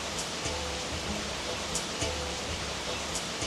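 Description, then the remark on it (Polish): Rain falling as a steady, even hiss that fills the whole clip, with a few faint ticks of drops now and then. No one speaks. “Pada deszcz akurat z tobą.”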